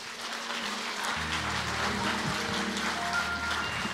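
audience clapping

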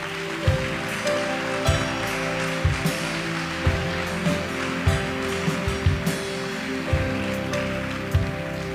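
audience applause

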